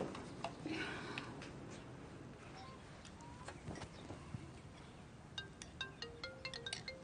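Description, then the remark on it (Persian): A phone rings with a quiet electronic ringtone: short, repeating melodic beeps that grow busier toward the end, set against a steady hum of background noise, with no one speaking. “تلفنتون داره زنگ میخوره انگار.”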